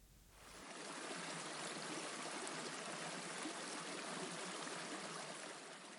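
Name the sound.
river water flowing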